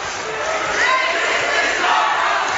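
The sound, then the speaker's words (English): A crowd of Frederick basketball fans roars and cheers as their team leads 57-41 late in the game to earn a Final Four trip to Towson University, a dense, sustained wash of voices with rising shouts and whoops that swell slightly toward the middle and end. “And the Frederick fans celebrating.”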